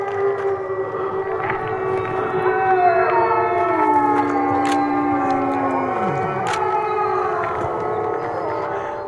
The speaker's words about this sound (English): And they said they had no idea if the wolves would howl back, but we should try it. It sounds kind of silly. But then listen to what happened. And now all the wolves are howling in response.